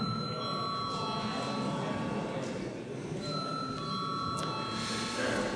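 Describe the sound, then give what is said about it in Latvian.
A continuous electric bell rings steadily in a parliament chamber before a vote on a corporate income tax bill, a sustained bright tone over a murmur of room noise, with no pause or change in rhythm. “Tātad lūdzu zvanu.”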